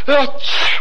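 A single loud sneeze: a short rising voiced intake breaking into a sharp, hissing burst of breath, heard on its own with no talking.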